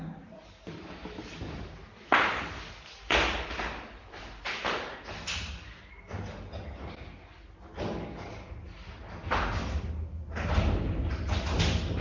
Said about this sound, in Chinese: 开一点门吧，开一点门。